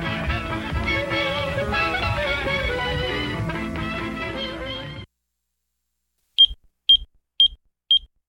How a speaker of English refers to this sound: You know what? Shut the door. I can hear that beeping.